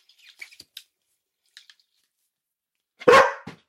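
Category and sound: animal, dog barking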